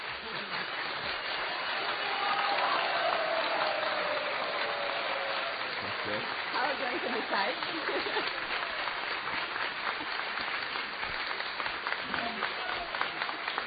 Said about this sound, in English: Okay, I want you to do it by clapping. Сейчас будете хлопать. All who felt that story on the left was the best clap.